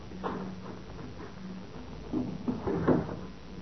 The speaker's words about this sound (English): Open those doors.